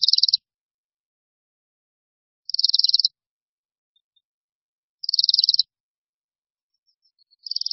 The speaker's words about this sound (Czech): A tak pokud uvidíte v zimě hejno letících špačků, poslouchejte, zda se neozývá tiché, nenápadné cvrčení. V tom případě totiž vidíte brkoslavy.